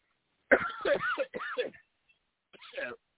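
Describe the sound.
A series of harsh coughs in quick bursts, a cluster of three or four hacks followed by a short pause and one more cough, with some throaty, voiced rasp.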